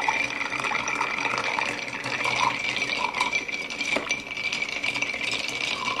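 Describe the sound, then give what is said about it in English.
Ice cubes clink and rattle steadily around a mixing glass as a spoon stirs a cocktail made with Akavit and bitters, stirred long to chill and dilute it, a continuous bright jangling with a faint liquid swish underneath and no voices. “So we really want to make sure that we stir this for a while.”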